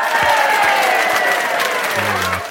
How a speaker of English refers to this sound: I like this one better. The sarcastic clapping. That's what we get.